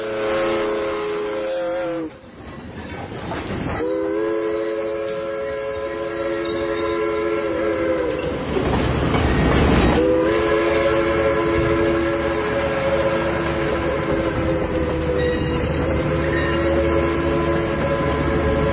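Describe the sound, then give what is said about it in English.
A train rumbles while its horn blares in long, sustained blasts, breaking off briefly and sounding again, loud and dominant over a steady low rolling noise. “Hear a train a-coming, it's the Trump train.”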